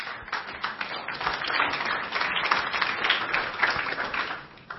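An audience breaks into sustained applause, a dense crackle of many hands clapping at a steady, fairly loud level throughout, with no voices over it.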